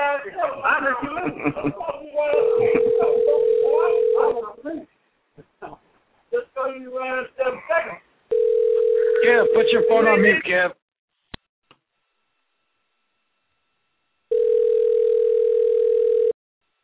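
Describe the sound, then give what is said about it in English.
A steady, mid-pitched telephone ringing tone of a call placed from California during a live show sounds in three long bursts with pauses between, the first two overlapping lively chatter and laughter, the last ringing out alone. “I'm going to try calling him right now.”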